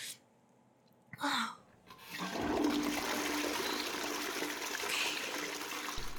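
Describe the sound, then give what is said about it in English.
A toilet is flushed: after a brief clunk of the handle, a loud, steady rush of swirling water starts and keeps going to the end, with no one speaking. “I should flush, huh?”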